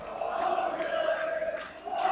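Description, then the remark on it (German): A large football stadium crowd chants in unison during a match, spectators urging their team forward: a sustained, droning roar of many voices holding a steady pitch, loud and continuous for the whole moment, with no individual speech standing out. “Und ihr hört wahrscheinlich hier die Stimmung.”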